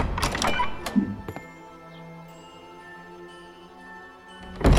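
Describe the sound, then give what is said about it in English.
A heavy manse door clunks and rattles open with a few sharp knocks, followed by a low, steady hum before a loud thud shuts it at the end. “The manse door.”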